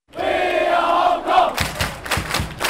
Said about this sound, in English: We are Hong Kong is the cheer tonight among thousands of red-shirted fans at the city stadium, tucked into the lush mountains and jagged skyscrapers of Hong Kong Island. Hong Kong's soccer team is playing Lebanon